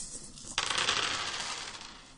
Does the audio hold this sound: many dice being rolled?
yes